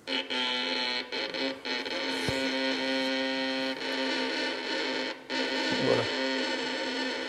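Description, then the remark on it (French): A violin screeches as it is bowed very slowly with strong bow pressure: a harsh, gritty, buzzing grind held for several seconds, with a few brief breaks between strokes. Loud and raw, with no voices. “Alors on obtient un grincement.”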